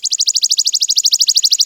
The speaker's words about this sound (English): The chipping sparrow delivers a simple, usually long, mechanical trill. Hear the rapidly repeated notes at equal intervals, same pitch.